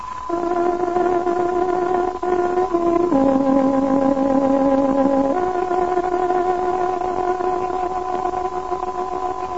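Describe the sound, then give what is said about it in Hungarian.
A tárogató sounds a shortwave radio time signal marking 21:00: a slow tune of long, reedy held notes that dips to a lower pitch midway, then climbs back up. It plays loud and steady, with no talking. “Most pontos időjelzést adunk. Tárogatónk hangja 21 órát jelez.”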